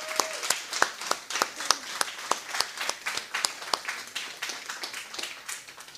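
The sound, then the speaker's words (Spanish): A crowd at a religious service applauds steadily for several seconds for those who stood up and came forward, sharp bright claps piling into a continuous patter of moderate loudness with no voices breaking through. “Te vamos a dar un aplauso.”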